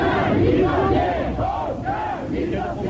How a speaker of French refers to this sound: Henri Giraud est donc reparti au volant de sa voiture en tentant de se frayer un passage au milieu de dizaines de LIP, criant et tapant dans les mains.